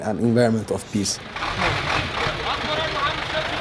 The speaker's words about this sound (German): Auf dem Markt in Asmara quetscht sich ein frisch eingetroffener Laster aus Äthiopien in eine schmale Parklücke.